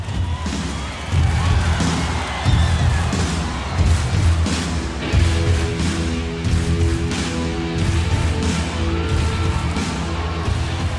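A huge audience at a rock band's touring concert stomps and claps together in time, in a steady, repeating rhythm of heavy low thuds followed by sharp bursts of clapping, loud.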